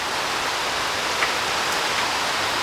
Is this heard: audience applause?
no